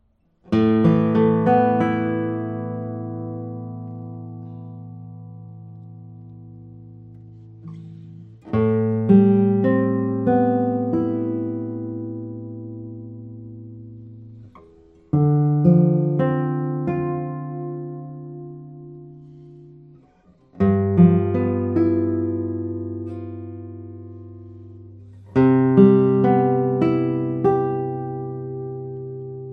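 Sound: guitar tones being played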